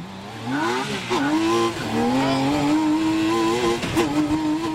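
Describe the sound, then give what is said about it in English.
A high-revving six-cylinder BMW motorcycle engine in a low, open-sided car with no doors accelerates hard down the road, its whine climbing in pitch and breaking at several quick gear shifts, loud throughout with no voices. “And you'll need it as the open-sided car hurtles down the road.”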